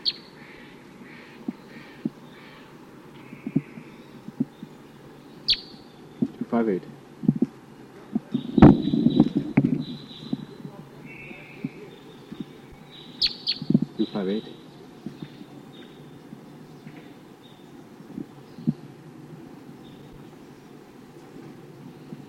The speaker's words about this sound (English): Recording bird 258. Responding to Sitkensis type calls from the wild.